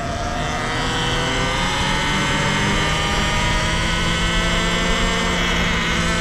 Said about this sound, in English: That's a gas line burning. You hear that? That's a gas line on fire. That's why it's roaring like that.